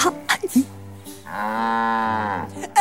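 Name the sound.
cow mooing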